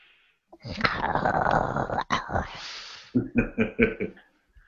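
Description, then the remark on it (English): A person growls like a dog: a long, rough, rumbling growl, followed by a series of short, rhythmic guttural growling bursts, loud and unaccompanied by speech. “I actually growl.”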